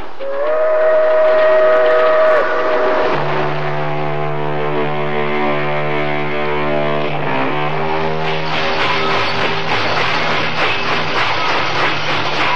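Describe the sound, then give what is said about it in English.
A freight train rumbles along the rails, loud, with long sustained horn or whistle tones sounding over the steady mechanical clatter throughout. No voices are present. “The freight train doors were slid open, and I could hear voices and the sound of water.”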